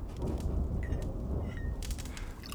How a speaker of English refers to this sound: The storm's getting more tense.